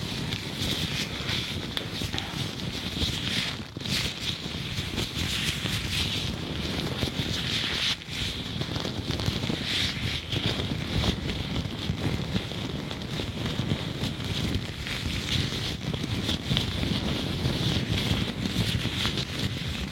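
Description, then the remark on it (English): Gloves being handled and rubbed, producing a steady, dense rustling and friction texture that continues without pause for the whole stretch, with no talking. “Personnellement, les gants, ça a toujours été une de mes triggers préférées.”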